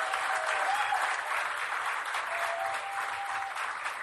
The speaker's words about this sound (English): Come on, clap for yourself.